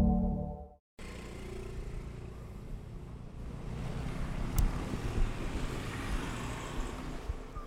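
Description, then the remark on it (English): Steady morning rush-hour street traffic in Thailand at 8 a.m. roars continuously, a dense wash of engines and road noise with a brief sharp knock midway. It opens with a short tonal hum, then a moment of near-silence. “Rush hour starts a little earlier in Thailand, actually, as you probably can see from the traffic when you got up.”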